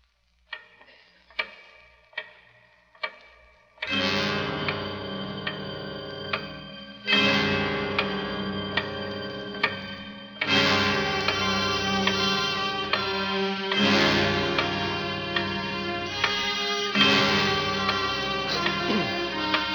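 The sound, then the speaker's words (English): The big clock from the radio drama The Big Clock ticks slowly and evenly, five or six sharp ticks, before loud, ringing tonal blasts swell in and repeat every few seconds, drowning out the ticking. “But first of all, listen to the other star, the clock itself, the big clock.”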